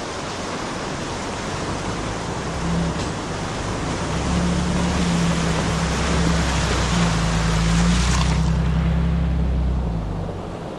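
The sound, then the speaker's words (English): An off-road vehicle's engine drones steadily beneath a continuous loud rush and splash of water as it drives through the river crossing on Imogene Pass; the noise swells slightly midway and then eases toward the end. “To the left, you can take the river crossing. Your call. But for me, every time, it's going to be the river.”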